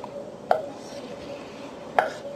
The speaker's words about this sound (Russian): И сейчас мы режем овощи. Режем все кубиками, примерно одной величины.